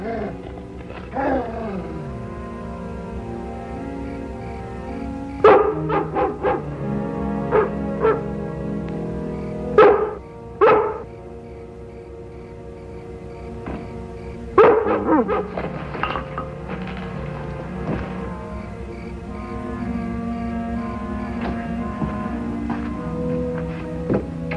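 A dog barks in several sharp, scattered bursts, some doubled, loud, over a steady droning musical background with no talking.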